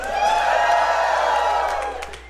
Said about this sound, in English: That always gets a big round of applause when you say, like, if Ticketmaster's a shithead, that always works.